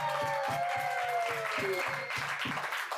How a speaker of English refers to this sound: If I asked you the single moment on the ice that most brought you joy, what would stand out? Just winning. Let's clap that up.